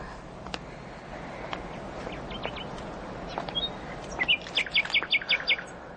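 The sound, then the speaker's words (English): A bird sings at night, a bright, quick phrase of repeated chirps, about six evenly spaced notes near the end, after scattered short tweets over a steady outdoor background hiss. “Well, I fear I will never teach any cage bird to sing as sweet as thee.”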